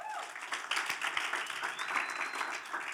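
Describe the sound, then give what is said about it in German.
Steady applause from a crowd for the band, many hands clapping in a dense, continuous patter with a few cheering voices rising over it. “Gib der Band mal einen Applaus.”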